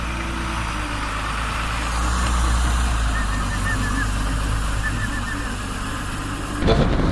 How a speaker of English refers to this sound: Check that beautiful bird above you. Hey, that's a good omen. Look at that.